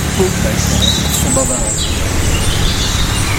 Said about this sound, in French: Alors, c'est le rouge-gorge.